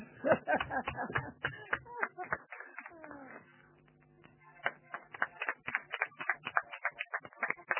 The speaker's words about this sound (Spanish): Continúa la serie de aplausos.